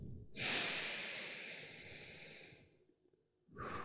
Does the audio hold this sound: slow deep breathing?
yes